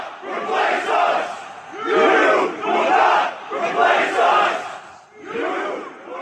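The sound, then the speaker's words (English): A large crowd of white supremacists at the August 2017 rally in Charlottesville, Virginia, chants "Jews will not replace us" in unison, loud repeated phrases in a steady rhythm of roughly one-second bursts with brief pauses between, many voices shouting together. “She says that the Jews will not replace us chant is textbook dangerous speech”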